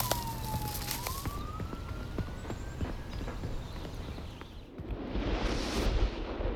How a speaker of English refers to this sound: The squad car speeds off.